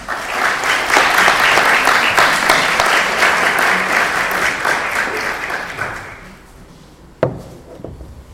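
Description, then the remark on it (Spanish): A crowd applauds warmly for about six seconds to welcome an invited guest speaker, dense clapping that tapers off, followed by a sharp knock and a brief quiet moment. “Y le damos la bienvenida con un caluroso aplauso si está.”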